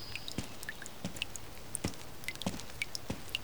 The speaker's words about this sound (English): Do you hear that? The rain. It's started really coming down, hasn't it? No, I think it's something else. A sort of dripping noise? I don't think it's the rain.